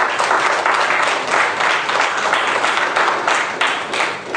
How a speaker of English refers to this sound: one more hand of applause.